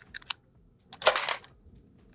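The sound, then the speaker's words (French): Crinkly plastic rustling as someone opens a cardboard box: a few short crackles, then a louder, longer scrunching burst that fades out. No voices. “Un bruit de plastique.”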